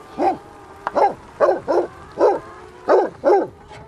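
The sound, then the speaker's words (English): A Pyrenean Mountain Dog, kept to protect a flock of hens on an egg farm, barks about seven times in a steady, evenly spaced run. The barks are deep and loud, with no talking over them. “Why do you choose the Pyrenean Mountain Dog for flock protection?”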